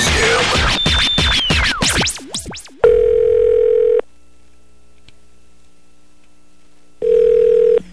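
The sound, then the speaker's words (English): Fast sweeping electronic whooshes give way to a telephone ringing tone on the line, a loud steady buzz lasting about a second, then a long pause before a second ring begins; the call is a phone prank on the Mojo in the Morning radio show, Channel 955. “Now, another world-famous Mojo in the Morning phone scam.”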